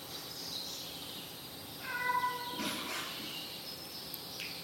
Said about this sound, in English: The cat who wants to get in.